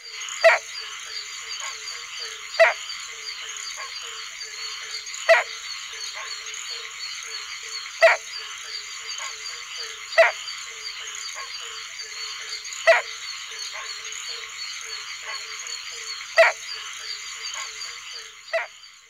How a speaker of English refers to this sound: The advertisement call of the barking tree frog sounds like the hollow bark of a hound. In contrast, the rain call of the barking tree frog is a much more raucous bark.